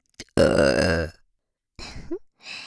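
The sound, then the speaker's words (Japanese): A loud, drawn-out burp lasting most of a second, followed after a pause by brief softer vocal sounds. “ゲップに対する情熱がやば。”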